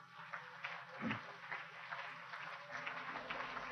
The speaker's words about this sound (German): Ich bitte um einen großen Applaus.